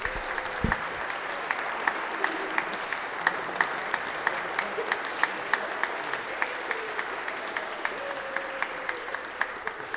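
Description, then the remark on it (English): A church audience at St. John's claps steadily for the full ten seconds to welcome new members, a dense patter of many hands with sharper individual claps standing out, at an even, moderate loudness and with no voices. “And our way of welcoming new members, of course, is we love to put our hands together and applaud, so we're going to invite you to do that now.”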